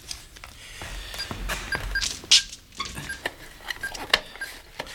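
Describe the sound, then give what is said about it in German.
Someone punches the secret code into an alarm keypad in a switch box at a side entrance to disarm the alarm within 30 seconds: a run of irregular plastic button clicks, several paired with short, high electronic beeps, with no one speaking. “Hier im Schaltkasten wird der Geheimcode eingegeben.”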